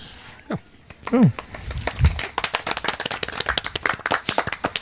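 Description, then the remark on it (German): An audience at the Podstock event breaks into steady applause after a feedback round held at microphones, many hands clapping in a dense, continuous patter that builds after a brief pause, with a voice or two calling out over it at the start. “Das ist, glaube ich, der schönste Applaus auf dem Podstock, weil der so schön gesittet an den Mikrofonen stattgefunden hat.”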